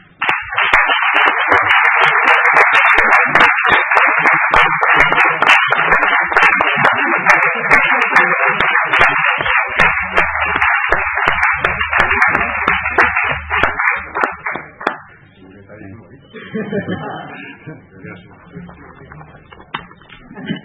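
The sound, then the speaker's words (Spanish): A crowd applauds loudly and steadily for about fifteen seconds, a dense wash of many hands clapping, then it fades out and quieter background sounds and murmuring follow, at the opening ceremony of the 2016-2017 academic year at Colegio Mayor Pío XII. “Así es que, pues, damos un aplauso.”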